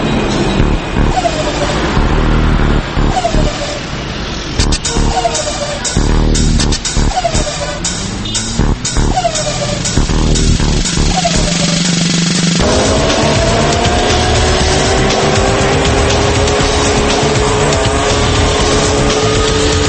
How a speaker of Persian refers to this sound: آلوده سازهای صوتی، اولیش ماشین ها